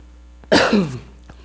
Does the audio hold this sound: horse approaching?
no